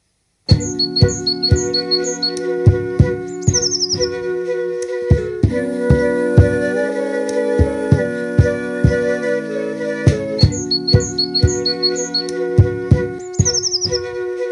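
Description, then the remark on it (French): Bright, high chirps in quick little bursts of a wren singing come at the start and near the end, set over steady music with rhythmic percussive hits and sustained tones. “Le troglodyte, c'est un virtuose qui n'est pas encore à ma portée.”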